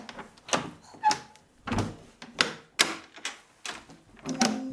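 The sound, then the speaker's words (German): A balcony door is shut with a series of clacks and thumps from the frame and handle, several sharp knocks in close succession, fairly loud, with no voices. “Und daneben ist auch schon die Balkontür.”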